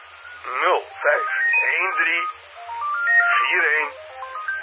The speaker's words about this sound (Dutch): En je hoort, de telefoon gaat al.